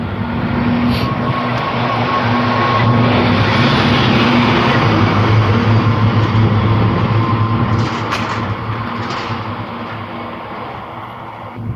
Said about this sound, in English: Garbage truck coming.